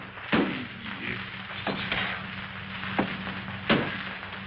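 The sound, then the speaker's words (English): Heavy thuds pound against a front door as vampires beat on it, four times at uneven intervals, each a loud, booming impact with a short rumble, over a low steady background hum. “As the vampires keep beating on his front door”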